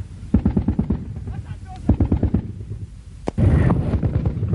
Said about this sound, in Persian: بینندگان عزیز، همین الان هواپیماهای عراقی منطقه را بمبارون می کنند و در حالی که فیلم برداران خارجی داشتن از منطقه فیلم بردار می کردن، هواپیماهای عراقی منطقه را بمبارون می کنند.